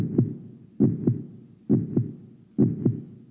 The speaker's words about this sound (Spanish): ¿Qué le pareció? Es inconfundible ese sonido, ¿verdad? Es maravilloso escuchar ese sonido, porque sin sus latidos definitivamente no podríamos vivir.